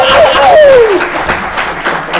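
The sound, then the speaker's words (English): A live audience, asked by the hosts to clap or say something, bursts into applause, dense clapping mixed with cheers and voices, while a sharp falling whistle cuts through early on before the clapping carries on steadily. It is pouring rain outside. “And just to prove that there is a live audience, would you mind clapping or saying something?”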